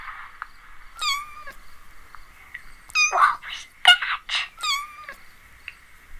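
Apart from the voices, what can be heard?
cat meowing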